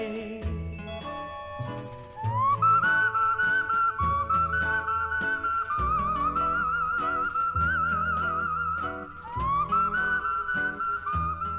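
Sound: human whistling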